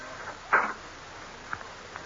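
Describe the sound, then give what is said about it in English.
An unlocked cabin door's latch clunks open with one short, fairly loud knock, followed by a couple of faint clicks as the door swings. No one speaks. “But just when I was beginning to think I had nothing further to worry about, I reached my cabin door and realized that it was no longer locked.”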